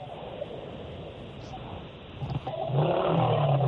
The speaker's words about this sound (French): Moi, j'entends la moto